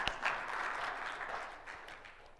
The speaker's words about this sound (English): Let's applause God on that one.